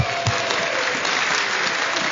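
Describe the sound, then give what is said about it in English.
A group of children clap and cheer together on a count of three to cheer on their friends of 2009, a steady, dense burst of applause that fills the whole moment, loud, with bright voices blended into the clapping. “Thank you so much for helping me cheer on our friends of 2009.”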